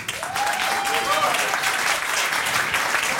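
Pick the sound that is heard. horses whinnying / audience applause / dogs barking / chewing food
audience applause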